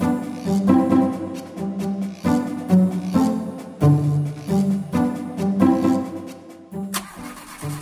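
A neighbour's car, being repaired out in the street, sputters to life and revs repeatedly in uneven bursts, loud, with a rough rumbling tone that rises and falls. No one speaks.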